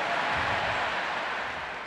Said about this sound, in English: Stop applauding.